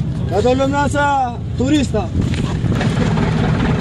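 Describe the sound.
A fishing boat motor drones steadily on the water as the boat sets off for the island of Sazan, a constant low rumble throughout, while a voice calls out briefly over it near the start.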